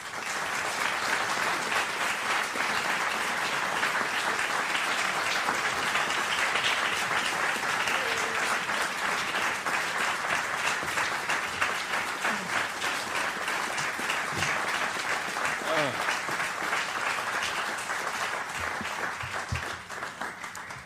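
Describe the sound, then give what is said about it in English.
Sustained applause from a large audience in a library auditorium, welcoming speakers Malcolm Nance and Marc Lamont Hill: a dense steady wash of clapping lasting about twenty seconds before tapering slightly at the end, with faint voices mixed in. “So without further ado, ladies and gentlemen, join me in welcoming Malcolm Nance and Mark Lamont Hill.”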